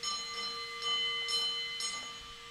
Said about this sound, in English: His biggest challenge was memorizing the Morse code-like system of bell signals that allowed the engineers to communicate with the men working thousands of feet underground.